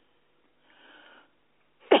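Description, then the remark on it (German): A raspy, wheezy breath drawn in, then the sudden start of a single loud, harsh cough right at the end, with no talking. “also wirklich, ich muss jetzt nicht husten müssen.”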